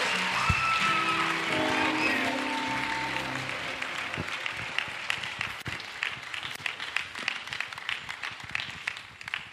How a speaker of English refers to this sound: if you don't clap for her, she won't sing.